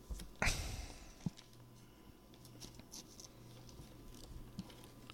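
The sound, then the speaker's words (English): A short, sharp tear of paper near the start as an envelope is ripped open, then a click and a stretch of quiet rustling and crinkling as the paper inside is handled and folded up like a paper airplane. No one speaks. “She ripped an envelope and it's got a cloud piece of paper inside, I guess to say.”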